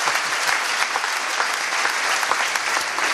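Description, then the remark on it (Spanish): An audience at a thanksgiving mass claps for the priest steadily for several seconds, dense overlapping hand claps at a fairly loud, even level with no voices rising above it. “Un aplauso al Padre, ¿eh?”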